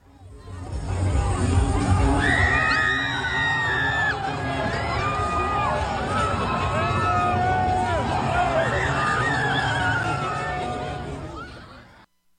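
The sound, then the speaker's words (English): A large crowd shouts and yells in a continuous, chaotic roar as a car is flipped over, with a woman's high-pitched screams rising repeatedly above the din for about twelve seconds before it cuts off. “The woman screaming is like while they're flipping the car.”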